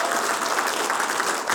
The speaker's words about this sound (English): Why don't you give him a big round of applause as he comes to bring the word to us this morning. Praise the Lord.